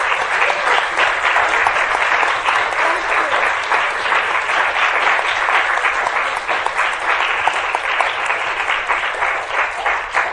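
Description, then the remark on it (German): Sustained, loud applause from a university lecture audience for the musician accompanying the lecturer's songs, a dense wash of many hands clapping at a steady level for about ten seconds without letting up. “Ein ganz großer Extra-Applaus muss jetzt nochmal kommen”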